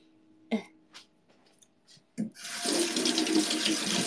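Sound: water running from tap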